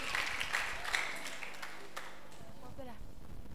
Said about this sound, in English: Clap for him. Clap for him.